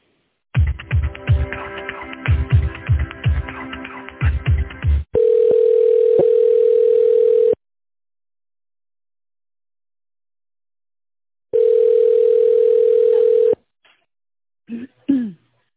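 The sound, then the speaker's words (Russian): A telephone ringback tone while a call to the company Royal Cars is transferred to an employee's mobile phone: two long, steady, mid-pitched rings separated by several seconds of silence, following a brief snatch of plucked music and ending with faint clicks. No one speaks. “Ваш вызов переводится на мобильный телефон сотрудника.”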